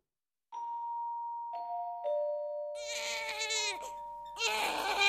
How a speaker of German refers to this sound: Mitten in der Nacht schreit das Baby. Es ist Zeit für den Mitternachtssnack.